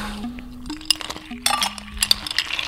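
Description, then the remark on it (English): Ice cubes clink and rattle into a glass of vinegar syrup and water in a quick, irregular flurry of bright, sharp taps, with a low steady tone humming underneath. “Add some water in it. Some ice.”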